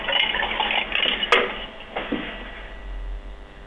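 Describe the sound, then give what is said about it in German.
A toothbrush cup is picked up and handled, with a sharp knock and a fainter clink against a hard surface amid soft rustling and a steady hiss, no voices. “Und zwar in deinen Zahnputzbecher. Nimm ihn dir.”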